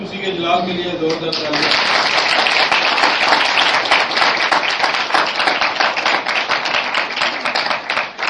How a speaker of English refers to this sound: Why do they applause? آپ نے کیوں تاریخ بجائی This is Pentecostist. This is Pentecostist way of life, Baptist or evangelist.